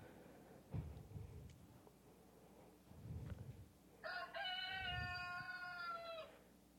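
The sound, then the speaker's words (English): A single loud, drawn-out rooster crow rings out with a rich harmonic tone, preceded by a few dull low thumps over a steady background hum. “Immediately, the rooster crowed.”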